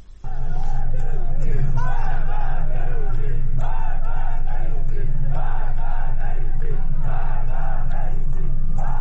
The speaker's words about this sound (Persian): در ویدیوهایی که در شبکه‌های اجتماعی منتشر شده، معترضان از جمله شعار مرگ بر گرانی، مرگ بر رئیسی و مرگ بر خامنه‌ای سر می‌دهند.